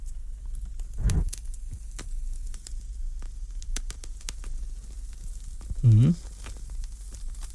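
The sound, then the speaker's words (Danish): Two soft puffs about five seconds apart, drawn on a lit cigar, with faint crackling and scattered small clicks between them over a low steady hum. “Men det ser ikke ud, som om jeg når mere på denne side af nyhederne, dog måske lige en lille bløb af cigaren her.”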